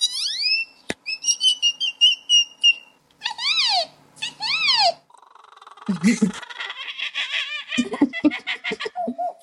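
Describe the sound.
A 12-year-old boy from Oklahoma, who can imitate 115 different bird calls, whistles a rapid series of bird call imitations: bright chirps, swooping slurred whistles and buzzy trills, clear and changing from one call to the next.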